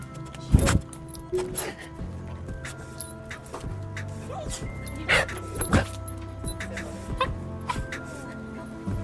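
A dog gives several sharp barks spread across a few seconds, mixed with higher whining whimpers, over a low steady background hum.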